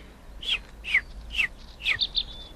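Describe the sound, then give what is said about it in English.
A robin redbreast sings a short phrase of bright, high chirps, about six quick descending notes spaced half a second apart, with the last pair coming faster; clear, with no talking. “He's a robin redbreast.”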